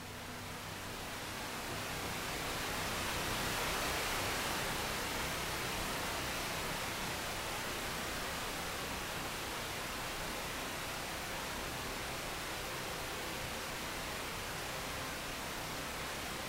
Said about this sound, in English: As you pass the waterfall, let the sound of it purify and cleanse your energy field.